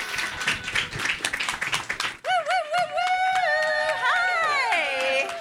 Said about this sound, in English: Right, come on down and give them a big round of applause.